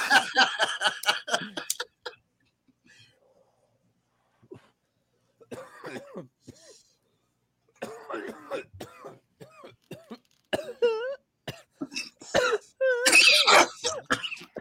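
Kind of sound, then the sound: human body sound, coughing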